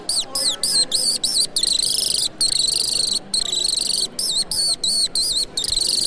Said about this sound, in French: L'alouette.